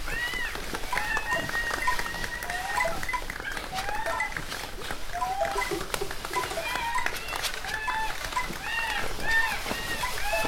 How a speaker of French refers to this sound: Mouette gris et goéland.